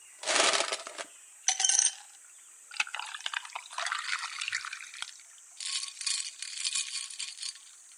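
Cold barley tea is poured into a glass for a guest at a hot-spring inn, with sharp glassy clinks at the start, then a bright, steady trickle of liquid that pauses and resumes. No one speaks.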